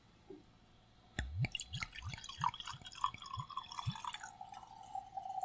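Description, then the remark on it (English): Kamikokuro sake poured from a bottle into a glass, with a quick run of gurgling glugs and a splashing fill that rises slightly in pitch as the glass fills. No one speaks. “And let's give it a pour.”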